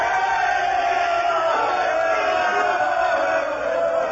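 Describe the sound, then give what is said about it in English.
A large crowd shouts and roars together in a continuous, loud wall of overlapping voices, steady for the whole stretch with no single words standing out. “What means this shouting? I do fear the people choose Caesar for their king”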